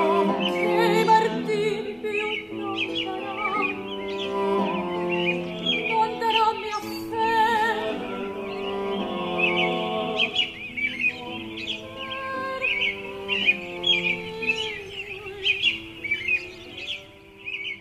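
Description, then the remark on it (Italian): A dense chorus of very many birds chirping and calling all at once in a city, a continuous overlapping chatter that stays fairly loud throughout, with no voices. “suoni di uccelli, moltissimi, tutti insieme, mai sentiti tanti uccelli in città.”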